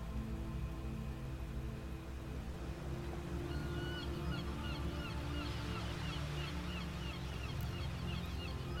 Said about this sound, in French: Le craquettement des cigognes installées sur le port nous parvient et se mêle à celui des goélands et des mouettes, lesquels caressent presque les vagues de leurs plumes tant ils volent bas.